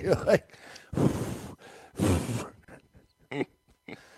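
Heavy, close-miked breathing: two long, loud, hissing breaths in a slow rhythm, framed by a few short grunting vocal sounds and brief quieter puffs of air.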